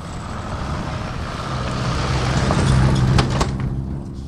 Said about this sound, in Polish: No właśnie jedzie samochód, bo samolot będzie niedługo lądował.